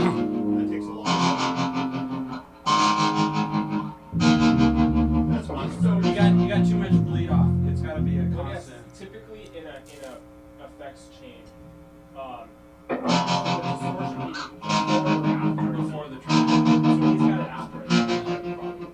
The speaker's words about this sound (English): Yeah, I'm just, it's a power chord with just two strings. It's not a full strum. You just get it.